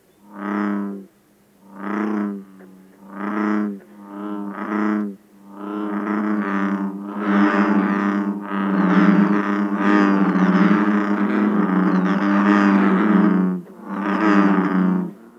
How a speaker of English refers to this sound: Here are some of the sounds you might hear at Turtle Pond. Bullfrogs.